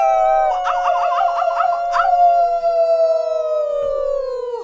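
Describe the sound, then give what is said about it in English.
Several voices howl together like dogs along with a song in a long, wavering chorus that slowly slides downward in pitch and trails off after a few seconds, a human imitation of a dog's howl. “You're going to howl like a dog.”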